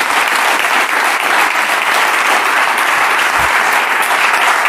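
Sustained audience applause, a dense steady wash of many hands clapping at an even, loud level for several seconds with no pauses or voices standing out.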